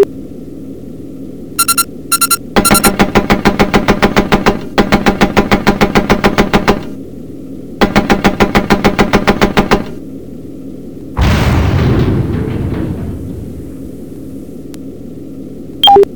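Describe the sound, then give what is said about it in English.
Bursts of rapid machine gun fire aimed at the remaining enemy craft, a few short taps and then three long rattling volleys over a low engine hum, followed by a loud crashing explosion that fades into rumble. “Alright, weapons master, take the rest out with the machine gun.”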